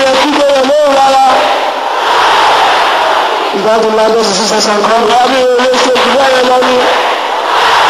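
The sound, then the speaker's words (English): A crowd of women in an audience shouts back a preacher's words in loud unison, with bursts of high, strained harmonic cries rising and falling over a dense roar of many overlapping voices. “Can I hear the sister shouting at me?”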